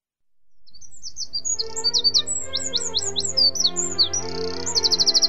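A hungry sparrow in an empty school classroom chirps rapidly and repeatedly, bright high tweets in quick succession, fairly loud, over a steady low background hum with no talking.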